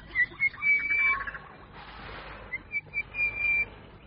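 An orange-breasted bush shrike sings a series of clear, whistled notes, repeated in short rhythmic phrases that sound fairly loud over a low background murmur.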